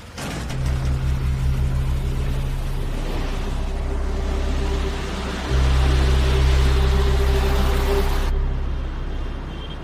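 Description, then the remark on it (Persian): A car engine hums steadily, deep and continuous with a low rumble, as another car follows it from behind, the sound swelling louder partway through as the other vehicle seems to draw near. No one speaks. “یه ماشین از پشت سر تعقیبش میکنه.”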